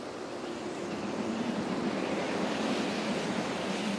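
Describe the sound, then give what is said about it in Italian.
Steady night wind rushes alongside the constant wash of sea waves on the open deck of a ship, a dense, unbroken roar that stays fairly loud throughout with no voices. “Una sera Fulvia era sul ponte della nave con Michael Wave”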